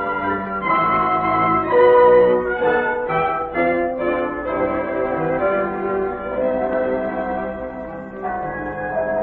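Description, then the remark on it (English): Church bells in Vienna peal continuously for a wedding, several tones overlapping and ringing out loud and full, with fresh strikes layering over the lingering hum. No voices are heard. “Listen to the bells, my darling.”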